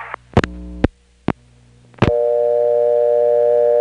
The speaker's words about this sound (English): However, the implementation of dial tone first in Clayton was a little bit kludgy, in that the dial tone first recording actually appeared on all the vacant levels of the first selector.